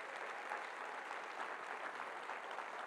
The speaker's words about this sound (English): This church is a church for the nations in Jesus' name. If you believe that, would you give the Lord a big round of applause in this place?